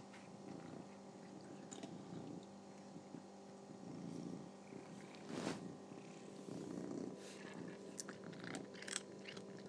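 A cat purrs steadily while crunching on biscuit treats, with intermittent chewing and crunching bursts layered over the continuous low rumble of the purr.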